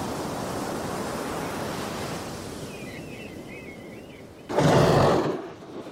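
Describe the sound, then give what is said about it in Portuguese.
Steady ocean surf rumbles and hisses on the shore, with faint bird-like chirps around the middle, then a louder wave crashes near the end before the roar fades. “Vamos sentir como o mar entra na música, como metáfora, como som, como força bruta e como silêncio.”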